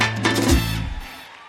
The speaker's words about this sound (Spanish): Si lo crees conmigo, dale un fuerte aplauso al Señor en esta noche.